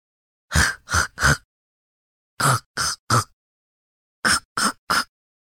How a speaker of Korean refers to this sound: 거친 숨소리, 기침하는 듯한 소리, 목줄이 목을 옥죄는 듯한 소리가 개들이 차근차근 나아가는 눈 아래쪽에서 들려온다. 10m 정도 가다가 개들이 멈추었다.